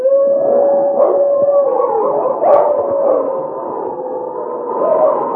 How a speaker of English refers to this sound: King heard the sharp howls of a wolf, and then a second wolf could be heard. But these were familiar and expected noises in the night.